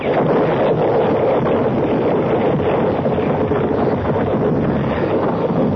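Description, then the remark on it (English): An explosion blows up the professor's machine, a sustained, heavy roaring rumble at a steady, loud level, with dense low crackling and no voices. “There's a good 5 feet left before she blows.”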